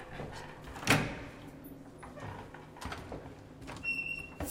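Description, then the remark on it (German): A young physicist opens a door to a room that looks like a NASA control centre, with dozens of consoles with screens and displays: a sharp knock-like clunk near the start, followed by softer scraping and rattling handling noises, with faint high electronic tones toward the end. “öffnet die Tür zu einem Raum, der aussieht wie das Kontrollzentrum der NASA.”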